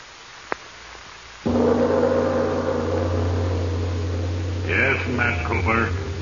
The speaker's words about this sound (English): the constant hiss of air into your helmet assured you that